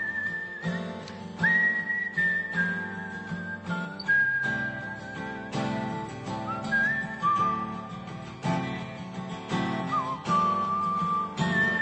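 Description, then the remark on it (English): A singer whistles a clear, wavering melody over a steady instrumental backing track, with sustained notes that slide between pitches, continuous throughout and without any talking. “Are you a whistler? Do you like to whistle? Is that relaxing to you? Guess who's whistling right now?”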